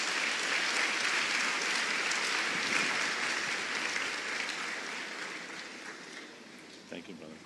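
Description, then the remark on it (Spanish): An audience gives loud, steady, dense applause to welcome Mark Dever. It gradually fades toward the end, with a few scattered claps lingering as it dies down. “Así que recibamos con un fuerte aplauso a nuestro querido hermano Mark Dever una vez más.”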